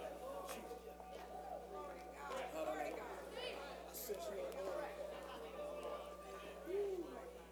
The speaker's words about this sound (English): Well, I just hear this crowd over here. These people over here don't care what.